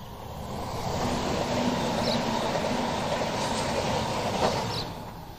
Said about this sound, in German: Warte, jetzt kommt gerade der Zug in 20 Sekunden. Also zwischen Gürbe und Bahnlinie, wie man jetzt gerade gehört.